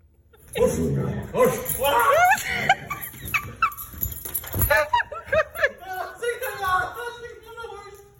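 A four-month-old Great Dane puppy barks and yips in a rapid string of high, squeaky bursts mixed with whiny cries, fairly loud, with a brief thump partway through.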